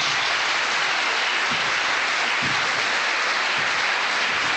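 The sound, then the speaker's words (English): Sustained audience applause welcoming Professor Tom Devine before his lecture in Glasgow, a dense, steady wash of many hands clapping at an even loudness throughout, with no voices heard over it. “almost everyone has now arrived, so what we have is a thunderous round of applause and welcome, and then it's over to Professor Tom Devine for the lecture”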